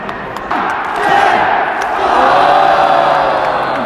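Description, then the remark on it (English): A huge Tokyo Dome crowd roars at a wrestling match as Will Ospreay goes off the stanchion, a dense, sustained wall of cheering and shouting that surges louder after the first half second and stays loud throughout. “Electrifying this Tokyo Dome crowd.”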